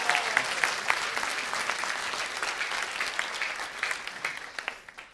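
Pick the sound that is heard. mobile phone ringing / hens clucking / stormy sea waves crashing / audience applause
audience applause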